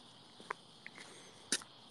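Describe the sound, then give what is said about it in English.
Faint, steady high-pitched chirring of real crickets fills a quiet outdoor night while someone takes a walk, with a few soft, brief clicks and taps scattered over it and no one speaking. “The cricket noises in the background.”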